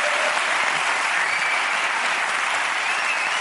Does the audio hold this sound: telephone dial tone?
no